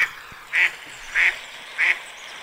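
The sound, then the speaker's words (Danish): A duck quacks three times at an even, unhurried pace, each call a short, nasal, mid-pitched burst standing out clearly over a soft background hiss, with no one talking. “Det lyder jo som en andefugl.”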